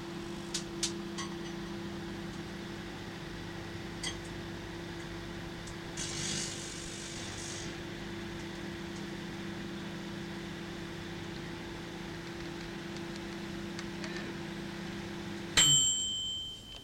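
A microwave oven hums steadily with a dud Z80 chip and a dud 8255 chip inside, broken by scattered crackling, sizzling bursts, before the hum cuts off and a sharp, high beep sounds at the end.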